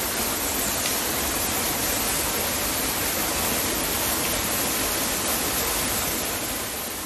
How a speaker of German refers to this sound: Wasserfall bei Anhausen.